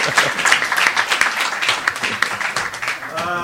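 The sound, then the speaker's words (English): An audience bursts into steady applause for a speaker's helper, a dense, crackling wash of many hands clapping at once that holds at an even level throughout, with a voice briefly rising over it at the very end. “So please, one big applause for my helper.”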